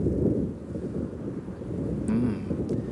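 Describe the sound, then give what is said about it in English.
Steady, loud gusting wind before rain roars and rumbles continuously, with low buffeting swells and a brief higher whistle partway through, no voices present. “Sounds like it's gonna rain.”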